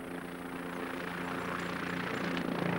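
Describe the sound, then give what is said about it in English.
A helicopter drones steadily overhead, its low rotor hum and engine noise filling the air and growing slightly louder over a few seconds, with no one speaking. “You know, that chopper's gonna spot her before we even get started.”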